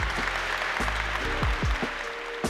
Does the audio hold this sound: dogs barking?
no